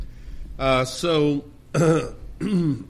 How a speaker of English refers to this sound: excuse me. And speaking of prayer, you might pray for me this morning. I got up in my throat, got this dry cough thing going on.